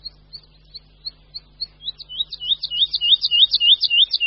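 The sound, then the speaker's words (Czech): A songbird sings a series of thin, high notes that start sparse and quiet, then quicken and swell into a loud, rapid trill, with no other sounds. “Jeho postupné nabírání tónu do závratné výšky, z které potom spadne hlasitým tlukotem, je v ptačím světě unikátní.”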